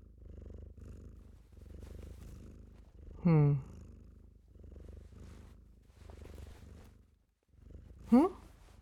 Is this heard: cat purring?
yes